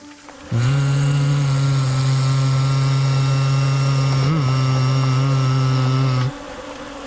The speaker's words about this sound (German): Greg klopft mit der flachen Seite seiner Streitaxt an eine Kluft. Und beim dritten Klopfen nimmt er ein wespenhaftes Surren wahr, nur viel lauter.